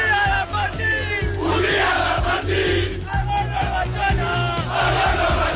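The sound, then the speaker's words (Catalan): Thousands of FC Barcelona football fans chant together in a loud, sustained roar, with a Barça midfielder leading the singing, filmed and streamed live on social media: rhythmic shouts rising and falling over a steady, booming low drone with sharp bursts of cheering. “Enmig de milers d'aficionats, el que porta la veu cantant és el migcampista del Barça, que li ve d'una altra persona, i el que grava ho transmet en directe per les xarxes, que és Alejandro Balde.”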